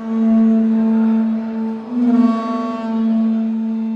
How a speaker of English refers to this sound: This is a hands-on display with interactive games where children can play paleontologist, and visitors are greeted with the simulated sound of a dinosaur's roar.